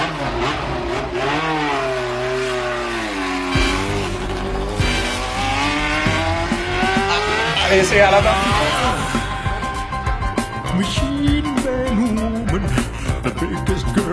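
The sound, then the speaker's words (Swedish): Emerson Fittipaldi's old McLaren racing car roars past in a stereo effect, its engine pitch rising and falling and tires squealing, loud, before music with a steady beat takes over. “Och bilen man hör där i introt, det är inget mindre än Emerson Fittipaldis gamla McLaren-bil.”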